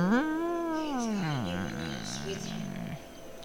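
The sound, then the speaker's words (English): A cat lets out a long, drawn-out meow that rises and then falls in pitch, followed by a lower, wavering tail, with faint background noise. “You hear the cat?”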